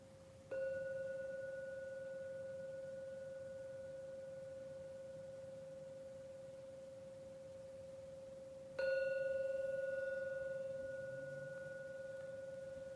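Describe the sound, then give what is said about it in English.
A gong is struck twice, several seconds apart, to end a meditation, each stroke leaving a steady, pure humming tone that rings on and slowly fades, with no talking. “Please keep your eyes closed until the last ringing of the gong is complete.”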